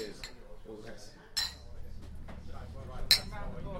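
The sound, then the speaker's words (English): Glasses clink together twice in a toast on a bus on the way to a beer festival, two bright, sharp chinks about two seconds apart, over a steady low rumble and faint background murmur. “To sensible enjoyment and living in the moment of every mouthful. Cheers, guys. Cheers.”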